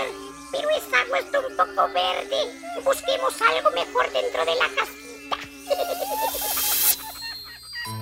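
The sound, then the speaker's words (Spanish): A steady, whining buzz of a dengue mosquito drones for several seconds, with warbling, voice-like tones rising and falling over it before it fades into a hiss near the end. “El zancudo del dengue prefiere hacer sus criaderos en agua limpia, como la que hay en floreros, tarros, latas, botellas o plásticos.”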